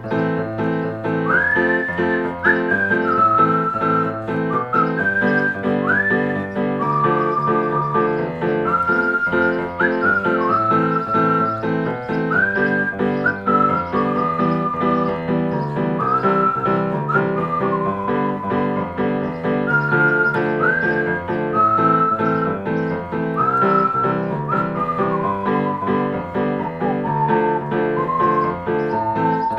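A whistled melody winds along over steady instrumental accompaniment, held notes rising with quick upward slides, repeating its phrase at an even, moderately loud level for the whole stretch.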